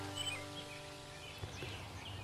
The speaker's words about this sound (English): I just started to record again because this one bird, he sounds like he's just not happy with me being here. Where is he?